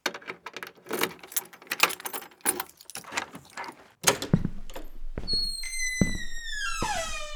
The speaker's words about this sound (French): Enfin bref, attends, j'ouvre ma porte.